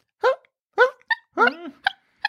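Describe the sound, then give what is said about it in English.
A voice imitates the dog Melody barking in her sleep: five short, hiccup-like voiced yelps in an uneven rhythm, moderately loud, with brief pauses between them. “Melody, when she's barking in her sleep, makes sounds that are like hiccups.”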